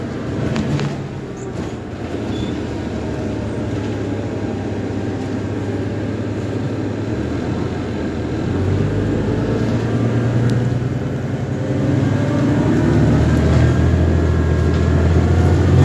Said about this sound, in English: When we go home, it will have been our first bus ride to the park and then go home on the bus after the park. Yay, bus. We say bus one more time, bus. On the bus. Going home.